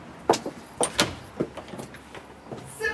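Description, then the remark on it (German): The dark green front door of a restored villa being opened, with a quick series of sharp clunks and latch clicks over a few seconds and a brief scraping swish at the end; nobody speaks. “Dunkelgrüne Fenster, eine dunkelgrüne Tür und ich vermute, hier geht's auch gleich rein.”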